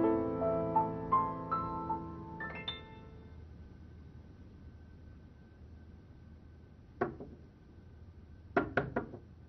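A single knock on a door, then after a pause three quick, firm knocks in a row, following a few short ringing electronic tones at the start.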